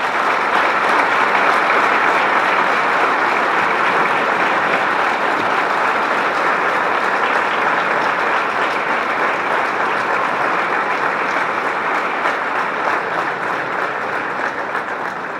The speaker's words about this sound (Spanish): Quiero que, de alguna manera, con un aplauso de ustedes, le demos ese reconocimiento a cada uno de ellos.